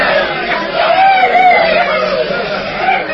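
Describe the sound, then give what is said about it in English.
A crowd cheers and shouts continuously, a loud dense wash of many overlapping voices with occasional higher yells rising above it, steady throughout. “Look at them cheering and shouting.”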